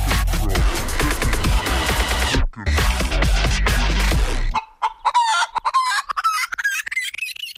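A loud, dense clamor of chickens squawking and a rooster crowing, broken by a brief gap, then a quicker run of sharp, rising clucks that thins out toward the end. No one speaks.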